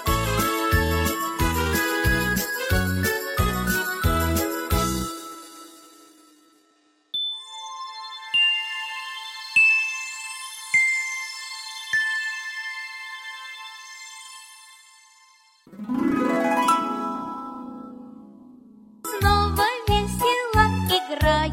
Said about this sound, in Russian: Музыканты, малыши, колокольчик, колокольчик наш играет от души. Дзынь-дзынь-дзынь, да дзынь-дзынь-дзынь, заиграли крошки.